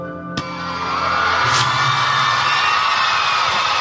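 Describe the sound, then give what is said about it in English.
An audience at a debate breaks into sustained applause after a sharp opening bang, a dense wash of many hands clapping with scattered whoops and crowd noise mixed in. “Who's clapping?”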